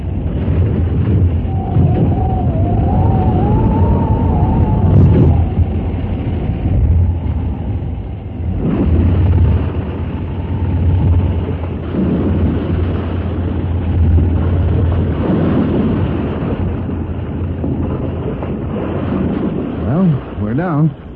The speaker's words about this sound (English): Only 1,000 feet separates the falling plane from the water.